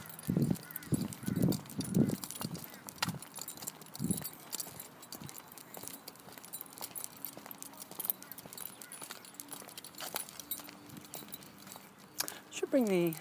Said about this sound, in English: Bring the old Olympus down and do some recording of these birds in the morning.